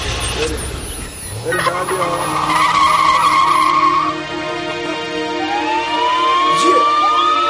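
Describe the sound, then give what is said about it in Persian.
A car pulls away with a long, loud tire screech and revving engine tones that rise in pitch, while a voice briefly speaks at the start. “بریم سوار ماشین شیم که داریم میریم.”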